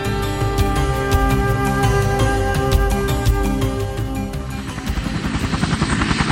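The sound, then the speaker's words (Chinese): A helicopter runs loudly, its engine whining steadily as the rotor starts spinning for takeoff on a flight over the Grand Canyon, the sound echoing in the canyon, with a rhythmic chopping pulse becoming more pronounced near the end. No voices are heard. “坐上直升机，系好安全带，接过机长递来的通讯设备，这时候螺旋桨开始旋转，发出震耳欲聋的声响，回荡在峡谷中。”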